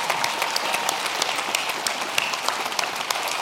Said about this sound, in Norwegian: Ja, kjempeapplaus.